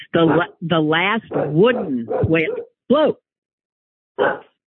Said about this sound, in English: There's the dog.